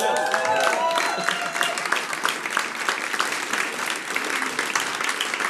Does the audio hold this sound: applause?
yes